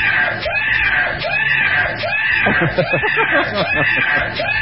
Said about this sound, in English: This is what it sounds like if your car is stolen and you've got the new alarm